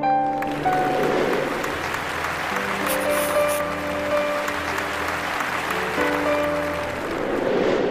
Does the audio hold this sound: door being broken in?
no